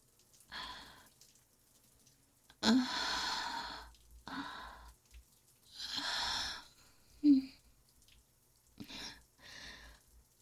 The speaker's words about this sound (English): You're breathing so hard now, aren't you? You think I wouldn't notice when your breath itches in your throat?